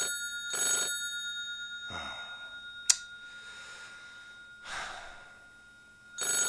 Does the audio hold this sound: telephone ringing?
yes